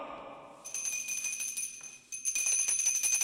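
A high, bright bell is rung at the Hoffman estate, its clear tone ringing on steadily, then struck again partway through so the ringing swells louder until the end. No voices.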